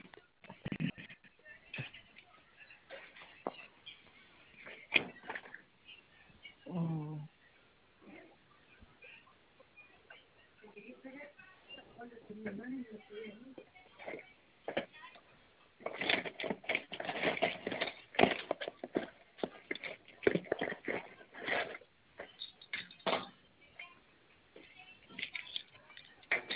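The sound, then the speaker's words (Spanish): Intermittent clattering and tapping of small objects being shuffled and knocked about as someone rummages looking for a pencil, with busier bursts later on and a brief faint voice midway. “espérenme, déjenme buscar un lapicito.”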